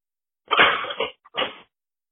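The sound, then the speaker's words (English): Dishes clatter as they are set into a cupboard: one longer rattling burst, a small click, then a shorter clunk, with no one talking. “I'm putting away my dishes right now. I don't know if you can hear that.”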